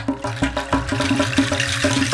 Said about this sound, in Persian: یک دفعه صبر شیر آب سر اومد، لرزید و قر زد و صداش در اومد.